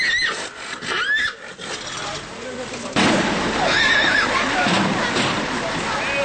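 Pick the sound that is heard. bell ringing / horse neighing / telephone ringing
horse neighing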